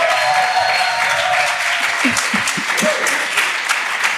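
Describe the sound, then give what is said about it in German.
A live audience at the Prachtwerk in Berlin-Neukölln applauds steadily, a dense, even wash of many hands clapping at constant loudness, with a few faint voices and cheers rising briefly through it. “So, Applaus ist ganz gut.”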